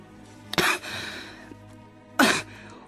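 Two harsh, explosive coughs from a woman, Katerina Ivanovna, that break off her speech, separated by a short pause with faint breathy noise in between.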